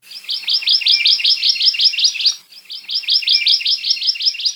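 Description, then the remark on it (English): A Hawaii amakihi, a yellow Hawaiian honeycreeper, sings two rapid, trilling runs of bright, high chirps, each lasting about two seconds with a brief pause between, clear against a quiet background. “In Ohia Forest, all over the Big Island, you can hear the song of the Hawaii amakihi.”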